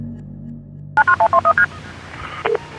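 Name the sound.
telephone keypad dialing tones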